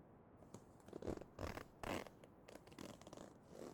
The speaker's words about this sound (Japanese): チャック開けんね。